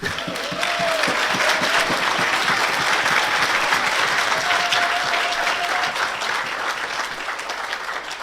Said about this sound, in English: So this is the applause moment for Abolish Frontex.